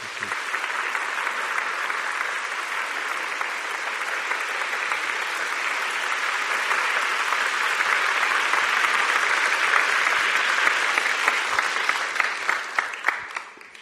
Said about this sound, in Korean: 오늘 특별히 저희들 모셨는데 한번 위로와 격려의 박수를.